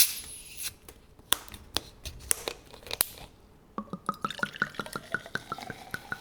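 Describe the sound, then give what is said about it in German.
A bottle opens with a short burst of hiss, followed by sharp ticks and then a quick, steady run of bubbly pops as a fizzy drink is poured into a glass. “Also es klingt klar nach einer Flasche, die aufgemacht wird und ein Getränk, das in ein Glas oder in einen Becher reinfließt und es kröselt auch schon so.”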